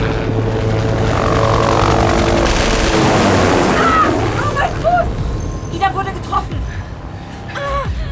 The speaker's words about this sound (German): Der Hubschrauber muss drehen, bevor er wieder schießen kann.